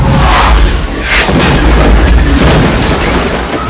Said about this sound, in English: Oh, a large missile is about to just come and hit us and blow up. The explosion will probably envelop us, but as with the good guys, we'll mysteriously live.